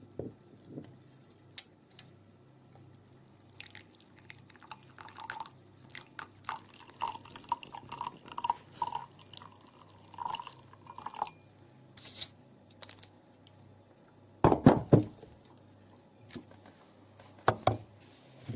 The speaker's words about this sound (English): I'm putting this bit into this glass and adding some hot water.